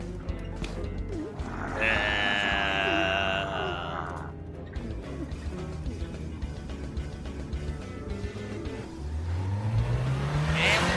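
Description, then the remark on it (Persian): A car engine, with an animal in the back of the car, drones steadily, then revs hard near the end, its pitch climbing as the vehicle accelerates. Faint voices are mixed in beneath the engine noise. “یکم آرومتر، حیوان داریم پشت عقب ماشین.”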